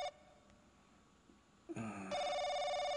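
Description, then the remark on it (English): A telephone rings late at night, around 2:15, with a bright, buzzy electronic tone: a brief ring at the start, a quiet pause, then a loud ring that swells and keeps going to the end. No one speaks. “Why is that phone? Oh, it's my phone.”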